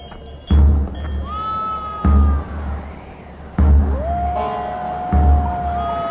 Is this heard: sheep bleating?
yes